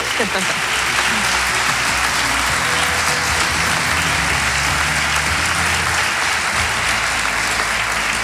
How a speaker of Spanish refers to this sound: Y aquí en este escenario estamos Jorge Bustos y dos invitados de categoría, don Francisco Rodríguez, presidente de la Diputación de Granada, y la alcaldesa de la ciudad, Marifran Carazo, para los que pido un aplauso enloquecido.